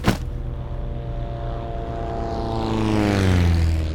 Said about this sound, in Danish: Der går 1,5 døgn, og så kommer redningen. Men ikke i helikopter, som de ellers havde bedt om. Redningstjenesten har sendt en lille propelflyvemaskine afsted.